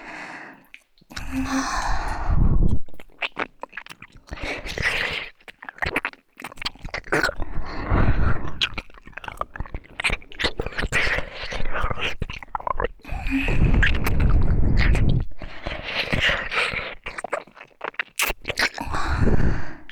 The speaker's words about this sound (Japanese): なんだかさっきよりも息遣いが荒くなってきましたね。